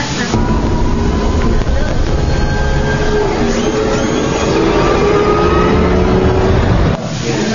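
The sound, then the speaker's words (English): A powerful engine roars steadily for several seconds, a deep, loud rumble layered with whining tones that shift in pitch like a futuristic car revving, before cutting off abruptly. “we've also been inspired by the Dark Knight Batmobile. We think that sounds pretty cool.”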